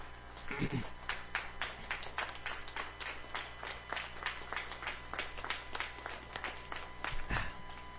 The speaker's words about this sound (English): Just stand to your feet. Give the Lord a clap offering in this house.